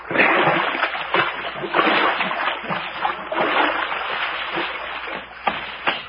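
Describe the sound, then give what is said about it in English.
Steady wet splashing and sloshing of footsteps wading through shallow, muddy creek water, with uneven repeated splashes over several seconds, fairly loud, and no talking. “Oh, boy, it feels good to get my toes out of this mush.”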